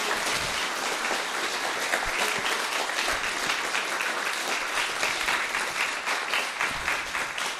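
Sustained audience applause, a dense steady wash of many hands clapping at an even loudness for several seconds, with no voices standing out.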